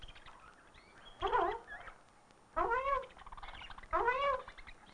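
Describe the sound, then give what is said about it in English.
A rose-breasted cockatoo named Romeo, from the interior of Australia, lets out three harsh, wavering squawks, spaced about a second apart, loud against a quiet background with no talking. “Romeo, the rose-breasted cockatoo from the interior of Australia. Hello, Romeo.”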